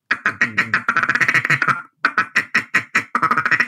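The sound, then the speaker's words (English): A duck call blown in a rapid feeding chuckle: fast, chattering clucks rolling in quick bursts, a brief pause midway, then more quick chuckles, loud with no talking. “Feed chuckles would sound something like this.”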